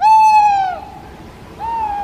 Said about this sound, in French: Alors, pour la petite information, l'oiseau qu'on vient d'entendre, parce que oui, c'est un oiseau, c'est une chouette-hulotte.